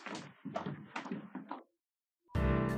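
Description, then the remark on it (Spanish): Four heavy, evenly spaced knocks on a door, each with a booming, resonant thud, followed by a short silence and then music starting abruptly. “Ven, Nerissa, apenas hemos corrido el cerrojo tras de un pretendiente cuando otro llama a la puerta.”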